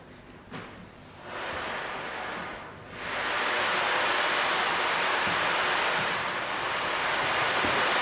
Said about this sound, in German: Ein Sturm tobt, das Wasser peitscht. Pure Naturgewalt ist am Werk. Mit unseren Percussion-Instrumenten wollen wir die Geschichte zum Leben erwecken.